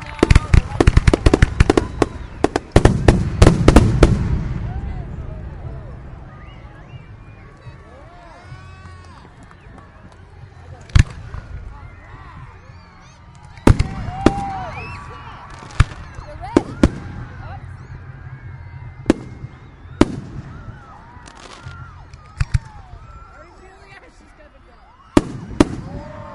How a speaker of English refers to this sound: Fireworks are going off right over our heads directly.